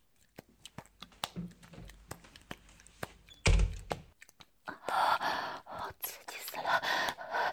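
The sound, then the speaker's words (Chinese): A door swings shut with one loud, low thud, set among soft whispering and clicking, followed by a stretch of broad rustling noise. “啊，我关门了。”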